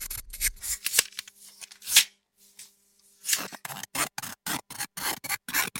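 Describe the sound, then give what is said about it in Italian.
Scissors snip through paper, first a few scattered cuts with a pause, then a quick steady run of crisp, rhythmic snips. No one speaks. “…, le forbici come strumento musicale.”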